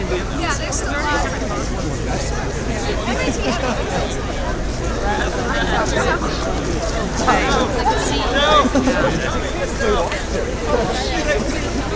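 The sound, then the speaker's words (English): A dense babble of many overlapping voices as a venue fills up with a young crowd, steady and continuous with no single speaker standing out, swelling slightly in loudness toward the end. “Place is totally filling up.”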